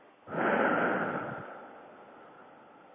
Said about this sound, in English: And then as soon as we notice that, just breathe out long and slow.